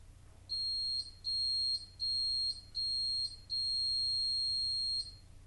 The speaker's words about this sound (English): And that's the diagnostic beeps, four short beeps and a long beep. I suppose if you're elderly, you may not even hear it. It's at such a high frequency, it wouldn't bother you.